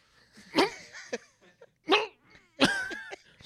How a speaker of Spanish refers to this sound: Te ahogaste como la anécdota. Tosiendo toda la película.